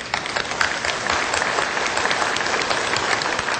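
An audience applauds steadily to welcome the next guest lecturer, a dense wash of many hands clapping at an even loudness for a few seconds, with no voices over it.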